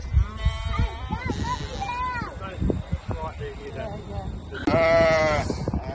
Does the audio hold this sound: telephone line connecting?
no